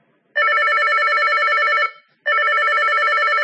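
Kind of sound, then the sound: signal or alarm, mobile phone ringing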